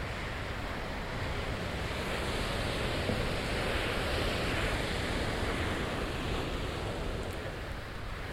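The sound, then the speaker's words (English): A steady, continuous roar of Atlantic Ocean surf washes along without letup, a dense hiss of breaking waves with some wind noise mixed in and no voices. “We're looking at what ocean? The Atlantic Ocean.”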